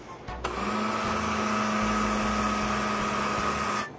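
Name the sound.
blender running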